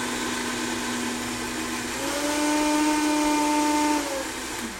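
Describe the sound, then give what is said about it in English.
A high-powered Vitamix blender whirs steadily with a loud, rushing motor hum that climbs in pitch partway through as it speeds up, then eases back down near the end, briefly mixing ingredients just enough to incorporate them. No one speaks. “So we're going to add this to our Vitamix blender bowl. So we're going to turn this on.”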